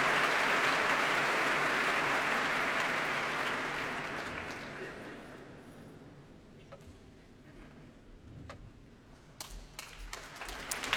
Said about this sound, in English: And coming on stage now to that applause is the guest leader of the BBC Philharmonic, Zoe Bayers.